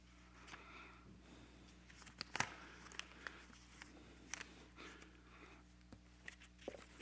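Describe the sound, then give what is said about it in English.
Quiet paper handling as paper is taped and stapled together: soft rustling and crinkling broken by a few sharp, irregular clicks and snaps like tape tearing and a stapler pressing down. No one speaks. “I taped and I stapled my paper together.”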